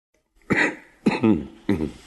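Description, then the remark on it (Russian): Three short coughs in a row, fairly loud, each a sharp burst trailing into a rough voiced rasp, with brief pauses between them. “Почему мне так знаком этот кашель?”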